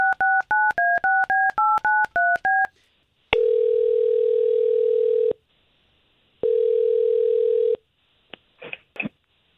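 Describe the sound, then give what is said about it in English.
A rapid string of about ten touch-tone beeps as a woman's phone number is keyed in for a radio morning show call, followed by two long ringback tones and a few clicks. No voices. “You gave us Faith's phone number. We're going to try to contact her”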